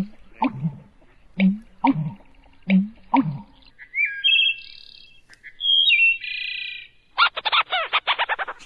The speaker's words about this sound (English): That last one, yeah, kind of like a cartoon squirrel there. Leach's storm petrel, a small seabird. We also heard the wood thrush, a relative of the robin. That beautiful flute-like song